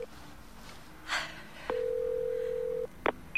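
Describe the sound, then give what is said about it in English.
A woman at home dials a number on her phone: a steady dial tone holds for about a second, then a couple of short, sharp keypad beeps follow. No voices, with a faint hiss in the background. “looking distraught as she dials a number on her phone.”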